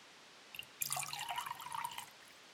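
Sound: water being poured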